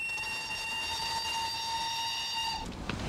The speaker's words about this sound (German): Warten, 11 Uhr? Wieso fährt der Zug nicht pünktlich ab?